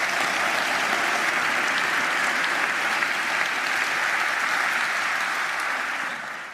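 Sustained applause from an audience for the speakers at a talk, a dense steady patter of many hands clapping at even loudness for several seconds before starting to fade at the end.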